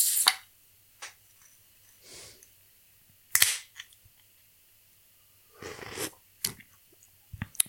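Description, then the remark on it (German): A can of Sudden Death IPA (7.0%) being opened: several sharp metallic clicks and snaps spread over a few seconds, with short bursts of fizzy hiss in between and no voices. “Deshalb, ich mache jetzt mal diese wunderbare Dose auf.”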